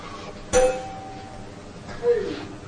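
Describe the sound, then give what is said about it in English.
A bell rings twice, each strike a sharp metallic ding that rings on with a lingering tone, the second about a second and a half after the first. “Is that a fire alarm? We ask it, coffee bell?”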